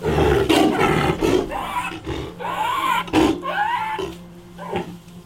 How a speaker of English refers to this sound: But he still suffers from gastroenteritis, and his roar sounds like a chain smoker's cough.